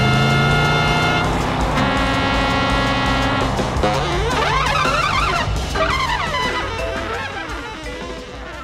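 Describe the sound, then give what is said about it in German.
A speeding car races along as horns blare almost nonstop, steady honks giving way to wavering, overlapping tones. Loud, with no talking, easing off slightly at the end. “Man hört natürlich sofort, die rasante Autofahrt ist hupte aus allen Tröten.”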